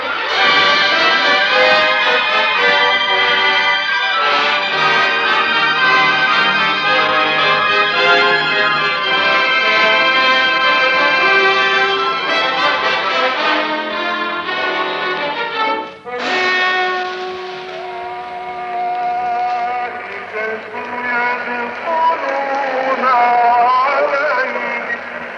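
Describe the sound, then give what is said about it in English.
Muslim prayers blare from the loudspeaker system of the Muhammad Ali Mosque in Cairo in long, wavering chanted tones above the steady roar of thousands of cheering Egyptians, on the day Britain returned the citadel to Egypt. The sound stays loud throughout, with a brief dip partway. “You are listening to Muslim prayers coming from the loudspeaker system of the Muhammad Ali Mosque in Cairo, as heard above the cheering of thousands of Egyptians on the day last summer that Britain returned the famous citadel to Egypt.”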